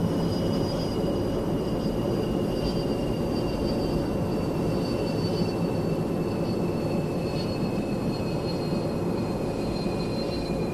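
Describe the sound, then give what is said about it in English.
A loud, continuous aircraft engine drone fills the whole stretch, its high whining tones sliding gradually lower in pitch over about ten seconds as the throttle is closed, with no voices. “Next, I want you to hold down the down arrow until you hear the engine stop decreasing in pitch.”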